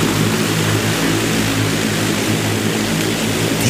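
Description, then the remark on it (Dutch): A large Volocopter cargo drone from a German drone company roars steadily on its first flight at the ITS World Congress in Hamburg, its loud rotors producing a dense, continuous buzzing drone with a strong low hum and no pauses, with no voices present. “Heeft een eerste vlucht gemaakt met een vrachtdrone op de ITS World Congress in Hamburg. Ik heb daar ook wat geluid van.”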